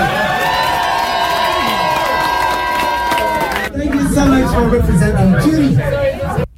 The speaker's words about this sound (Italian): Beh, il conflitto c'era, io l'ho sentito. L'avete percepito, sì, esatto, hai capito? Litigio proprio maschio tra gabbiani.